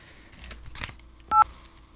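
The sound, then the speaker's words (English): A single short, loud touch-tone beep rings out partway through as a phone number is dialed, preceded by faint clicks and handling noise from the phone. No one speaks. “I'm going to call the number.”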